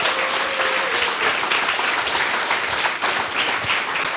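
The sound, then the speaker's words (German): Steady, dense applause from an audience at an event in Cologne, a continuous crackle of many hands clapping at an even, fairly loud level throughout, with no voices standing out. “Großen Applaus.”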